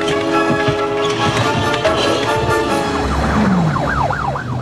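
A police motorcycle siren starts up partway through, wailing in quick rising and falling sweeps over a dense backdrop of steady humming tones, fairly loud, as the traffic cop's motorcycle pulls up.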